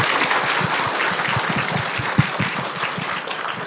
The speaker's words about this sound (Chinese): 但是我觉得徐老师讲那么辛苦啊，他讲得很精彩，他解说也很多大家可能平时没有注意到的观点，先给徐老师一点掌声吧， 谢谢。